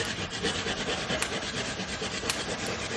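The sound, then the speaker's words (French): Ginger being grated in a steady, continuous scraping rasp, dense and fairly loud, with a few brighter scratchy strokes standing out, and no voices. “Première étape, commencez par râper le gingembre.”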